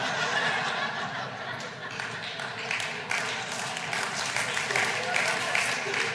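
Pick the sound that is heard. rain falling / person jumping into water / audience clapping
audience clapping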